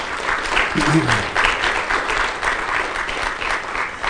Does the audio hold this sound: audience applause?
yes